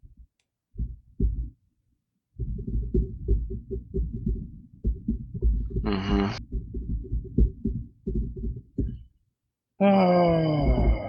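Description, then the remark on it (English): A long, drawn-out burp rumbles low and raspy in stuttering pulses for several seconds, followed by a brief pause and a louder, higher-pitched voiced tone. “Burp.”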